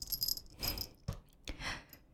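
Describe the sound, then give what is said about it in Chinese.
Soft metallic jangling of a collar being fastened, a few short jingling bursts with a couple of sharp clicks of the buckle in between, no voices. “好了，既然是属于我的小狗，就应该带上我的项圈。”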